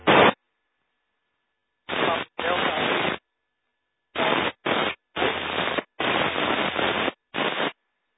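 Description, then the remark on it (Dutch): Radio static hisses in about seven abrupt bursts that cut in and out with silent gaps, a faint garbled transmission, too weak to make out, buried under the loud, narrow-band noise. “Ja, dat lukt niet. Dat zit te ver in de ruis.”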